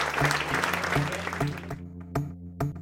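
Audience applause, a dense wash of clapping that fades out after a couple of seconds, leaving a steady low rhythmic pulse with occasional sharp ticks.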